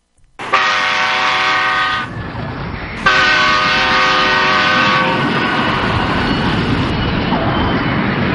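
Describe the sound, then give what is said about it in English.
A train derailment sound effect played on a show: two long, loud horn blasts over a continuous heavy rumbling roar of rolling rail cars that keeps grinding on after the horn stops. No one speaks. “Joe just derailed the show.”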